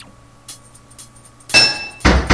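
Two loud, ringing metallic clanks of a hammer striking a pipe in a video game, triggered by pressing the enter key once every half beat, spaced about half a second apart, following a few faint taps over a low steady hum.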